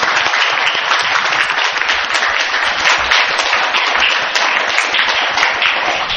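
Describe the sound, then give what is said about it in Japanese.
A crowd applauds steadily in thanks to the brothers of the family at a Christian lecture, after a closing prayer. It is a dense wash of many hands clapping at an even, loud level without pause for several seconds, with no voices on top. “改めまして、家族の兄弟に感謝の拍手をお願いいたします。”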